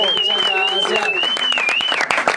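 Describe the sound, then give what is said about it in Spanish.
Lively applause, with dense, irregular claps running throughout and growing a bit sharper near the end, while a sustained high whistle-like tone and crowd voices ring over the clapping. “¡Un aplauso!”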